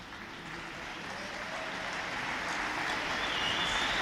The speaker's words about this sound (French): Ça m'a ému quand tout le monde s'est mis à applaudir. Le bruit d'une salle entière qui tape des mains, ça fait trop longtemps qu'on en est privé.